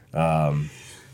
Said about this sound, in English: I was about to say bless you. Did you sneeze? Yeah. Bless you.